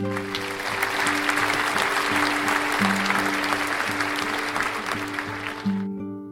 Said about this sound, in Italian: Tutti gli amici applaudirono.